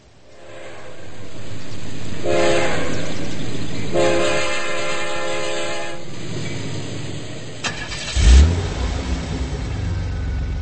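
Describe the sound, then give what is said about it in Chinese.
A car drives past with a steady engine rumble, two long honking horn blasts sounding over it, then a heavy thump and continued low rumbling; Chiang Kai-shek rides in the car with Dai Jitao in Shanghai. No one speaks. “蒋介石坐在小汽车里，对坐在身旁的戴季陶说：”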